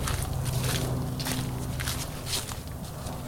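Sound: footsteps of someone walking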